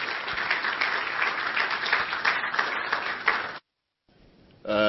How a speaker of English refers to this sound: Why don't you give him a big round of applause as he takes to the stage?